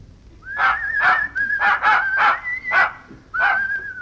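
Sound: dog whimpering and barking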